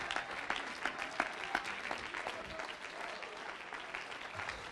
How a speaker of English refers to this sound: Clap your hands and praise him for it.